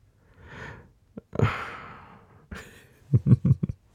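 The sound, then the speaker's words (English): A breathy yawn, set off by another person's yawn: a soft drawn-in breath, then a long airy exhale that trails off, ending with a few short voiced murmurs. No talking. “I'm only yawning because you yawned.”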